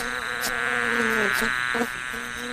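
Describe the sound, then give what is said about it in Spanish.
Bees buzz around flowers in a garden, gathering nectar, in a steady drone whose pitch rises and dips as they move, with a few soft clicks and no voices. “Las abejas acariciaban las flores para tomar de ellas el más sabroso néctar.”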